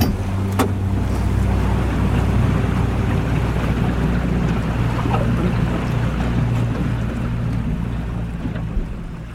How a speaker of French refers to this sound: Tout d'un coup, on s'arrête en bateau. Là, on était en train de foncer dans les fjords.